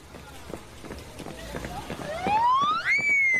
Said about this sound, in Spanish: Oye, Wilson, ¿has escuchado esa sirena? Pues sí, qué graciosa que es.